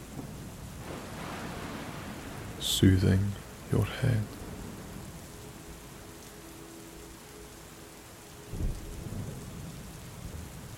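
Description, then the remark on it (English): Steady, growing rain hisses throughout on a warm summer night while low, distant thunder rumbles roll in the background, one swelling near the end. A soft voice speaks briefly over the storm. “In the distance, thunder rolls”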